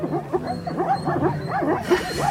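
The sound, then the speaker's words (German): Zebras give sharp, yelping barks in quick repeated bursts over a low, steady grunting chorus of wildebeest, the herd sounding dense with no speech, by the Mara River. “Zwischen dem Brummen der Gnus ist manchmal das helle Bellen der Zebras zu hören.”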